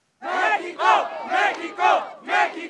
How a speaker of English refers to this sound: Marchers shouting, "Mexico, Mexico," circled the Angel of Independence monument and spilled down several city blocks of the capital yesterday.